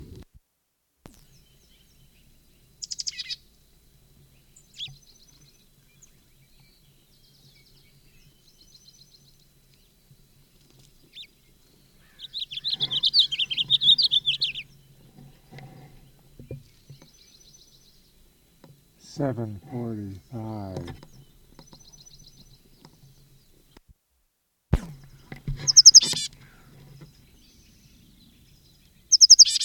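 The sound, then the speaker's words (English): A bird sings from a conspicuous perch at the west end of a bench south of a school: short, high-pitched phrases separated by long pauses, including a buzzy trilled burst and a quick descending run of notes, with faint low rumble underneath. “Bird on conspicuous perch.”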